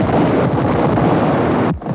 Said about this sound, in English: Familiar sound of tear gas canisters exploded on Seoul streets.